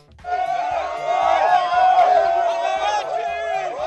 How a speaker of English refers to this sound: It's the second day of demonstrations against President Mwai Kibaki's disputed election in that country. Thousands protested in the streets of Nairobi against Kibaki. Police fired off tear gas to try to break up the crowds.